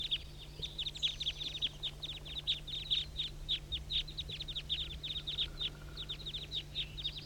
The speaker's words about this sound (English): Recording the major part of the flock here. Major. There must be 30 birds circling above the hollow.